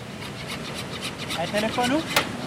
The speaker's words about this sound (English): But as he saws wood with his two friends at his work table, it's easy to see what his specialty is.